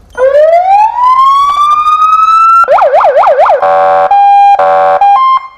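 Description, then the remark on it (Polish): The siren of a new municipal guard patrol car runs through several modes: a long rising wail, then a rapid warbling yelp, and finally short piercing electronic blasts, all loud with no talking. “Tu Radio Łódź mówi z nowego radiowozu Straży Miejskiej. A gdzie jest kogut?”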